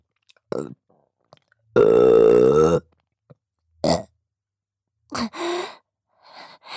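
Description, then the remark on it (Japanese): One long, loud, drawn-out burp rumbles for about a second, framed by shorter gulping burps and breathy gasps in the quiet around it. “これからもずっとこうして一緒にいて、ゲップもごっくんも聞かせてあげますね。”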